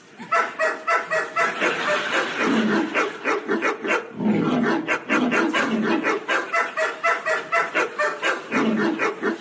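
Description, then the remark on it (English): A rapid run of dog yelps at shifting pitches, played on a dog piano as described by Athanasius Kircher in 1650, each key making a different dog yelp, one after another in a dense, continuous stream, loud, with no talking. “As you'll hear, each key sticks a pin into a different dog.”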